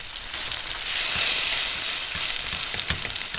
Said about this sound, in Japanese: 次に鶏そぼろを作ります。フライパンにごま油、お酒と合わせた鶏ひき肉を入れて火にかけます。鶏ひき肉にお酒を加えてから炒めることで、炒めた時にそぼろ状になりやすくなりますよ。